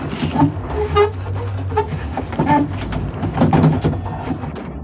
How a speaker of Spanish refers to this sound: La embarcación se acerca junto al muelle, haciendo rechinar las maderas carcomidas de su estructura.